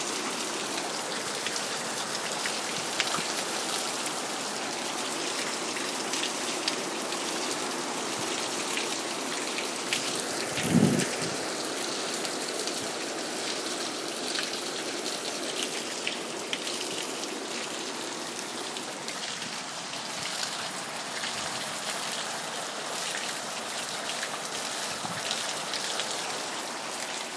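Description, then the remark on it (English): Steady rain hisses across the whole recording, with rainwater dripping and splattering off a roof, including one louder splat about midway. No voices are heard. “Those little sounds of water. Oh, there comes more. It's coming off the roof.”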